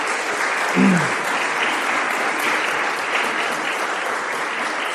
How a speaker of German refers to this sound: Ich denke mal, das ist einen großen Applaus wert, dass du das an deinem Geburtstag machst.